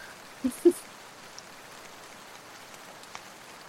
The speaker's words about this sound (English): Yeah, and when you get to the APC, really the rain starts to kick in again.